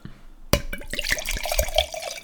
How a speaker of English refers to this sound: you pour it into a glass. Then you lick the excess vodka off your fingers, because you always fuck up while pouring vodka into a glass.